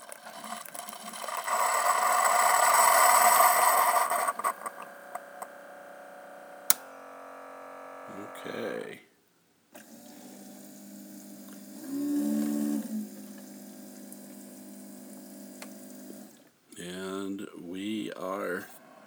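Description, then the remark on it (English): A single-serve coffee maker whirs and hisses as liquid streams into a large 10-ounce cup, a steady pour that gives way to lower pump hums and droning mechanical tones after it stops, as it heats its internal water tank back up. “And at this point, it has finished dispensing liquid into the cup.”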